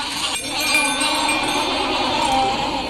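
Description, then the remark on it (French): People imitate sheep bleating in a steady, wavering chorus while another person imitates bells, a bright metallic jingle like small bells, as improvised music, continuous and fairly loud throughout. “Quand il faisait les cloches, on faisait le bruit des moutons.”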